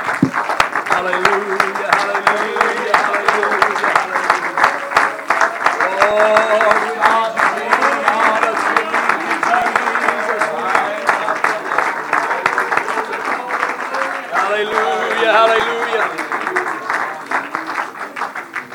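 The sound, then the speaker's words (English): An audience claps hands in praise to the Lord, steady and loud, a dense crackle of many palms for nearly twenty seconds, with raised voices calling out and cheering over the clapping. “Let's all give the Lord a good hand clap of praise.”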